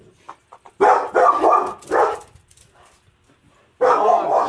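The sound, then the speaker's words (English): Dogs bark loudly in a few rapid clusters at someone walking by beyond a fence, with short quiet gaps between the outbursts. No one speaks. “Just someone walking by through the fence. Puppy!”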